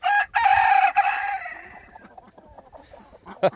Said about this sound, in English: That little rooster's amazing. When he crows so hard he almost goes over backwards.